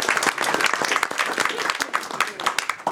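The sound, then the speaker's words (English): Sustained audience applause at the end of a talk by Radhika Fox, Chief Executive Officer of the U.S. Water Alliance: a dense steady patter of many hands clapping at once with scattered sharper claps standing out, fairly loud throughout and with no voices on top. “So a big one more big clap. Applause.”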